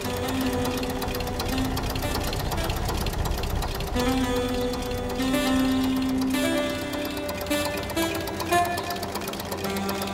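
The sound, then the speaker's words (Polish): A tractor engine runs steadily at an exhibition in Leipzig, a loud, continuous mechanical chugging with a busy rattling texture and some whining tones layered over it, with no voices. “A i znów traktory, dobra.”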